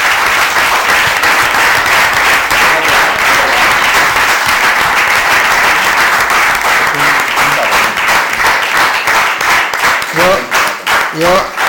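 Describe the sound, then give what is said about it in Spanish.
A crowd applauds loudly and steadily in recognition of someone's work, a dense wash of many hands clapping that thins toward the end, where a few voices and individual claps stand out. “i m'agradaria demanar-li un aplaudiment per la feina feta i el seu reconeixement.”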